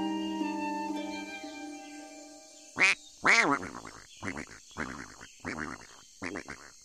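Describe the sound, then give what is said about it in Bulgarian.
A goose honks loudly twice, then keeps up a rapid series of shorter, nasal honking calls, after a brief soft tonal hum at the start. “Знаеш колко месеца съм я огоявала тая гъската”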